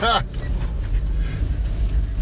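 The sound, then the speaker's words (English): A sharp nasal sniff followed by a quick breathy scoff right at the start, then only the steady low rumble of a car interior. “You had a sniff before your scoff, bro.”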